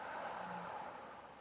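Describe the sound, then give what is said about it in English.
A slow, deep breath out during a breathing exercise, a soft and airy rush of air held steadily for over a second before easing off slightly, quiet with no talking. “And hold, breathing out.”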